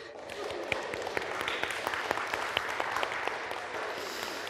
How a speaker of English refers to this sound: No doubt all that applause was from a variety of political parties.